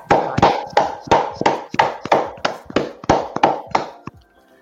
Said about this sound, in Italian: Purtroppo è venuta a mancare qualche giorno fa e mandiamo a lei i nostri ultimi saluti. Facciamo un applauso, dai!